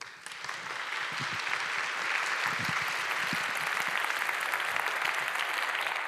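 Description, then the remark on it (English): Steady audience applause welcoming a speaker to a talk on the Noise Protocol Framework, a dense, even wash of many hands clapping at constant loudness throughout, with a few faint low thumps underneath and no voices. “Please give him a hand of applause.”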